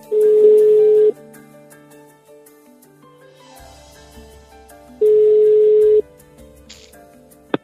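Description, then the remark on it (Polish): A telephone ringback tone sounds twice, each a steady one-second beep with about four seconds of quiet between, loud and clear over a faint murmur of background sound, while calling the Polish priests' helpline Ksiądz na sygnale. “Szczęść Boże, czy dodzwoniłam się na infolinię Ksiądz na sygnale?”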